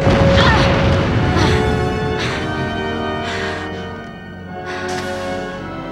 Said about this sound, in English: Either I become impervious to antimatter explosions, or we're still dreaming. A warp core explosion should have destroyed the ship.